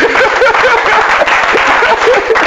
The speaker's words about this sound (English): Or give Jesus a clap offering anyway.